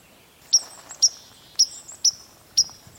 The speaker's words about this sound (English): That sort of alarmed sound the bird is making. It's a white-throated sparrow, and I call that note pink. And it is kind of an alarm note. And he's probably got young, a family, moving through here, and he's just disturbed.